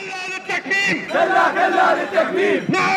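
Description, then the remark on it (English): A crowd of Iraqi journalists and press freedom advocates protesting in Baghdad's book market chants loudly in unison, voices rising and falling in a steady rhythmic slogan with harmonic shouting that continues throughout. “Last week, Iraqi journalists and press freedom advocates poured into Baghdad's book market to protest.”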